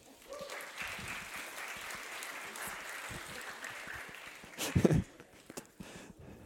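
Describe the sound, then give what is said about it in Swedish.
A crowd breaks into steady applause to welcome people arriving at a gathering with a Bible reading. It is a dense wash of many hands clapping at moderate volume, with a brief louder burst near the end before the clapping thins out. “Ska vi välkomna dem med en applåd?”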